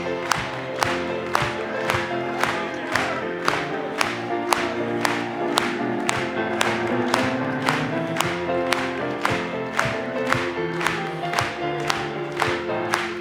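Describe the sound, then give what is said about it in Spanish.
A crowd claps together in a steady, even beat, about twice per second, over music and Spanish-language group singing of praise to God, sustained and fairly loud throughout. “Cuando los redimidos vamos entrando, vamos a aplaudirle una vez más.”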